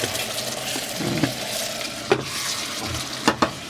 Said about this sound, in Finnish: Me koko ajan ootin, että sä kaadat siihen pannulle tuon veden.